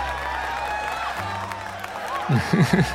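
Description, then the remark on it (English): A lively bar crowd murmurs and chatters, then breaks into a short burst of cheering and whoops near the end after a customer announces the next round is on him, a few rising voices over steady low background hum. “Yeah, there's a bit of a cheer.”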